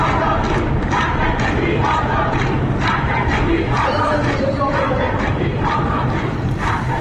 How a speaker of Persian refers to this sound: صدای اعتراضی این وکلا رو میشنویم.